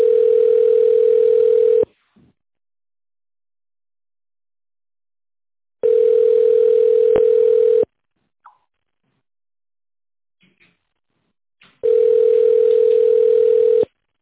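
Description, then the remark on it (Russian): A steady mid-pitched telephone tone sounds in three long, even bursts of about two seconds each, separated by longer silences with a few faint clicks, while the caller waits for an operator on a line to the Smolensk Nuclear Power Plant. “К сожалению, линия занята. Пожалуйста, дождитесь ответа оператора.”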